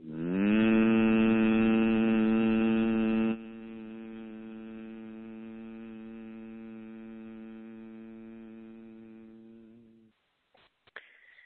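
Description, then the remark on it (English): A person exhales a steady, sustained hummed tone as a breathing exercise, held for about ten seconds on one long breath, loud at first then softening slightly before fading out, followed by brief faint rustles. “Inhaling, exhaling a humming sound.”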